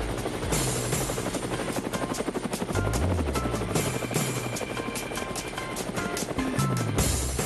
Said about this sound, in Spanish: Bueno, amigos de Cuba, llegó el momento de visitar ciudades. El helicóptero nos está indicando que vamos a dónde